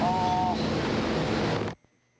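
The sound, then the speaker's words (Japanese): A nori seaweed processing machine, fed matured harvested seaweed in a process taking one to two hours, runs with a loud, steady mechanical roar, a brief whining tone at the start, then the noise cuts off abruptly. No one speaks. “機械の音がありましたんで、ちょっと聞き苦しいとかあったかも分かりませんけれどもね、やっぱりでき取ってきたものをしばらく熟成置いといてから機械のとこに持って行って、それでやっぱり1、2時間かかってずっと工程行くんですよ。”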